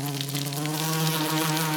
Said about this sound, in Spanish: Zumbaron los abejorros.